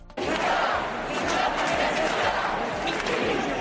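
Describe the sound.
A large crowd shouts and chants together at a rally where trade unions were present, in a sustained, loud roar, with rhythmic low thumps pulsing beneath the massed voices.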